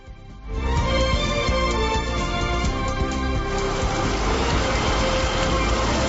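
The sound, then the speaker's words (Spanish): A dense, steady roar of heavy morning rain in the Valle de Temis at Aría, on Lanzarote in the Canary Islands, begins abruptly after a brief quieter moment and keeps pouring at a constant loud level, a thick hiss with a low rumbling undertone. “Llueve, esta lluvia es concretamente de Aría. Esto en el Valle de Temis está cayendo con esa fuerza, con esa alegría, y con esa alegría hay que recibirlo, además en una isla que está en emergencia hídrica como es Lanzarote”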